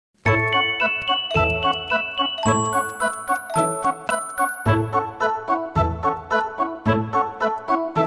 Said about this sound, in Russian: Вез дед на санях мешок рыбы. Лошадка бежит, копытами стучит, колокольчиком звенит.